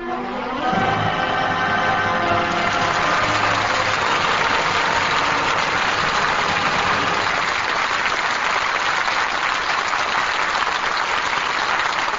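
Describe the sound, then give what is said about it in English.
An audience breaks into loud, sustained applause as the curtain falls on a performance of All My Sons with Burt Lancaster, Edward Arnold, Scott Brady and Ann Pierce, a dense steady wash of clapping lasting several seconds, with a low tonal hum fading out in the first moments. “Curtain falls on All My Sons, and that applause is our thanks to a stellar cast for their really fine performances.”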